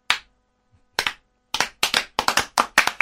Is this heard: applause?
yes